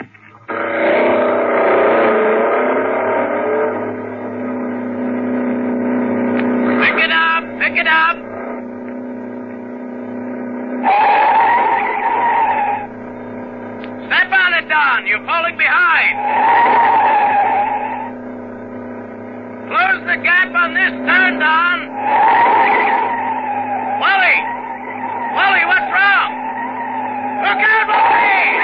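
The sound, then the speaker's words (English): A loud car engine revs and drones continuously while a car is driven for the filming of a motion picture sequence, broken by repeated high, wavering tire squeals as the car skids several times in bursts. “you're sitting tense and nervous behind the wheel of your own car, your motor racing”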